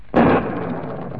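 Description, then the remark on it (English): A sudden, loud thunderclap from a storm outside a large house on a sprawling country estate bursts in, heard from a room inside, then settles into a low, rolling rumble that lingers and slowly fades, with no voices. “In spite of the storm outside, the room maintains its cheeriness”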